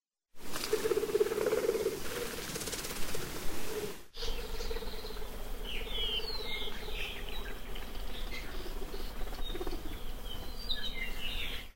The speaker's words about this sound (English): A commonly heard non-vocal forest sound is the Apapani wing flutter.